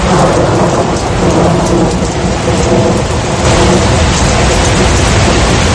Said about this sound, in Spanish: Tormenta, lluvia y granizo.